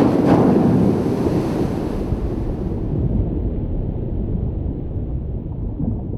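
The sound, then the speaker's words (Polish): A loud watery rush opens as a submarine plunges into the ocean, then the bright hiss fades into a steady, muffled low rumble of deep water. No one speaks. “Wsiądźmy więc do łodzi podwodnej, zanurzmy się w głębiny i sprawdźmy.”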